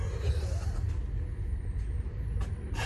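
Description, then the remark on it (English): A heavy, steady low rumble of a Clayton shunter locomotive moving a subway car, broken by several short, sharp hisses of air brakes, loud. “We're being shunted around by one of the resident Clayton shunters, which gives a good opportunity to pretend that we're driving.”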